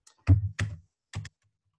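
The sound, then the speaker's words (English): A few clacky computer keyboard presses as someone presses control-space to trigger autocomplete: two quick keystrokes in succession, then a brief pause and one more, with no talking. “Let me scroll to the very top of this thing, and it says autocomplete is control space. Aha, control space.”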